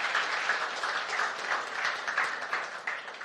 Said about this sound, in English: Let's give the Lord a clap of praise.